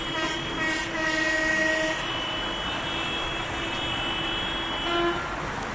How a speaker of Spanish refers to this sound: El sonido de tractores y camiones cisterna que llegaron al centro de A Coruña desde zonas como Carballo o Curtis. La protesta de agricultores y ganaderos que llegó frente a la delegación del gobierno